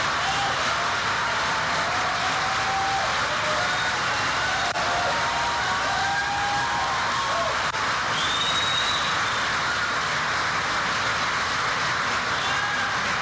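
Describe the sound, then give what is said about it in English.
Loud, sustained applause and cheering for an applause line in a speech roar steadily for the whole stretch, a dense wash of clapping with a few high whistles rising above the crowd, with a little mic distortion. “that seems to be incredibly loud and incredibly long applause and cheers”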